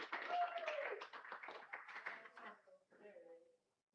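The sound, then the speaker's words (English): A crowd claps steadily for about three seconds, with a few whoops and cheering voices mixed in, applauding the janitorial staff. The applause then thins out and fades to quiet. “Go ahead, you can clap.”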